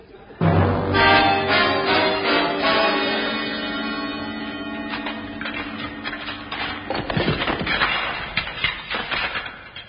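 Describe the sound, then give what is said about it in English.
A sustained musical chord rings out, then gives way to a run of loud, irregular thuds and knocks of shovel strokes breaking through a wooden floor. “Oh, just a few more strokes of this. I can see daylight.”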